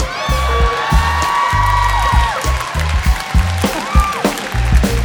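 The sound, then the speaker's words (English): A crowd applauds and cheers loudly, with high whoops and shouts rising over steady clapping for several seconds. “I've never gotten applause for it before.”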